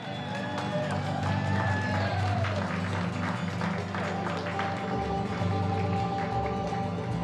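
An audience at a live band's show claps steadily and loudly for several seconds to celebrate a couple, a dense patter of many hands mixed with crowd cheering and a few high whoops rising above it.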